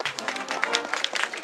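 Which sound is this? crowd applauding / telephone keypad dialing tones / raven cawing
crowd applauding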